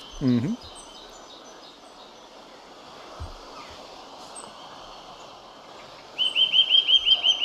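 A nuthatch gives a quick series of sharp, repeated piping notes near the end, clear, over a steady outdoor hiss with a brief call at the start.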